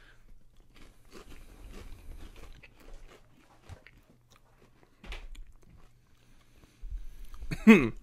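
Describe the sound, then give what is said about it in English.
Someone bites into crunchy food and chews, with irregular crisp crackling bursts separated by brief pauses, ending in one louder, sharper crunch. “So yeah, we're going to cheers. We're going to eat it.”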